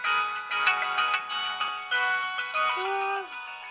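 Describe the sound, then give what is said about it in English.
A cell phone rings with a bright, melodic electronic ringtone, a rapid run of tonal notes repeating steadily for a few seconds at moderate volume, with no talking over it. “My cell phone never works in here.”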